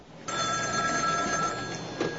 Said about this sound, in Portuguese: O médico está em casa quando o seu telefone toca.